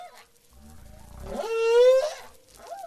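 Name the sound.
whale song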